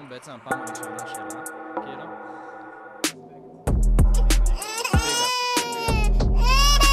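A baby cries loudly and up close in the second half, with wavering, rising and falling wails broken by short breaths, after a quieter, steady tonal stretch.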